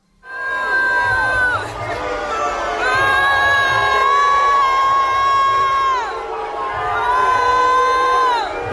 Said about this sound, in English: And for those who didn't know, no matter how you feel about Ted Cruz, I think it's BS that he found a way to foist himself into the parade for the Astros on Monday. Here was the crowd reaction to him riding through the streets.